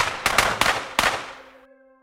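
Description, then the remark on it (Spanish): A firing squad's ragged volley: four loud gunshots in quick, uneven succession, each ringing out with a reverberant tail that fades away, leaving a faint sustained tone at the end. “cayó por el disparo, pero también por su ambición, su terquedad, su sombra.”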